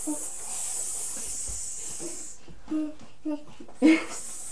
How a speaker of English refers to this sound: What slithers along the ground? What's in there? It's a snake.